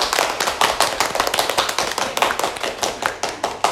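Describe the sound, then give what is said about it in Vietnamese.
Steady applause from a crowd at a contest awards ceremony, many hands clapping in a dense, continuous patter with sharp individual claps standing out, fairly loud, with no voices over it. “thì ban tổ chức cuộc thi trân trọng tổ chức chương trình tổng kết và trao giải cuộc thi để vinh danh và ghi nhận những đóng góp và tình cảm của các thí sinh đối với văn phòng trong thời gian vừa qua, và đề nghị chúng ta cho một tràng pháo tay.”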